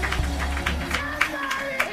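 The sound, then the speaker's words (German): An audience claps together for God in a steady, rhythmic beat, sharp hand claps repeating about every third of a second over a low rumble, with voices and a sustained tone faintly underneath. “Klatscht für ihn. Klatscht für ihn.”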